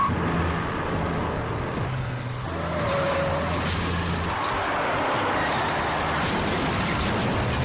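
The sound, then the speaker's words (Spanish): Around midnight, a car engine rumbles steadily and loudly as the car heads toward a house in San Carlos Park, Lee County, not stopping until it reaches the yard, with a brief high-pitched squeal partway through and a harsh roar of road noise throughout. No one speaks. “Alrededor de la medianoche, un hombre estaba desempacando sus cajas cuando oyó el sonido de un auto que se dirigía hacia su casa.”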